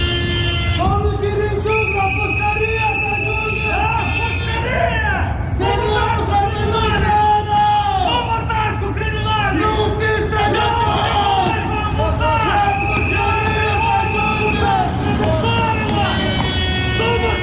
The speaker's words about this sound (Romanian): Tocmai ați auzit strigătele ce se auzeau în preajma intrării din spate în clădirea Parlamentului, în momentul în care deputații și miniștrii din noua garnitură veneau la ședință, fiind întâmpinați acolo de câteva grupuri răzlețe de protestatari.